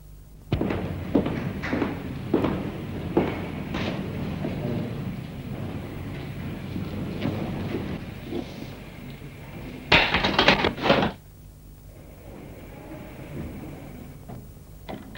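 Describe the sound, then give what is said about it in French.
A run of sharp metallic clicks and clunks as a prison guard turns a key in a cell door lock, then a loud, booming prison cell door slam that rumbles briefly before quiet returns. “Les surveillants, à force d'ouvrir des milliers de serrures, en même temps qu'ils engagent la clé dans la serrure, ils tournent, ils tâtonnent pas. Vous avez un geste très précis. Pof, clac, la porte.”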